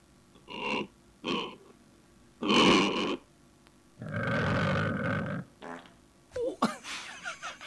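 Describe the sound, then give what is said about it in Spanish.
A pig lets out a string of fart noises: two short puffs, a louder burst, then a long buzzing blast that ends in a sputtering, crackly trail. No one speaks. “Le quedó un pedito.”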